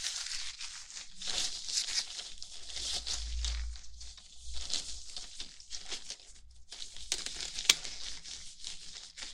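Continuous crinkling and rustling, like plastic or fabric being handled, as gloves are taken out of a drawer, with bursts of crackly texture and a brief soft thud partway through; no one speaks.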